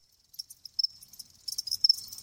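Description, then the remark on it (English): A cricket chirps in quick, high-pitched pulses, growing denser and louder toward the end, with no voices present. “That's a cricket.”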